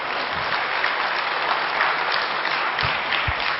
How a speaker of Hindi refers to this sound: भाई तालियां तो बजाइए।